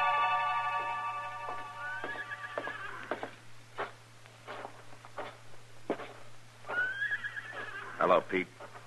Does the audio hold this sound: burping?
no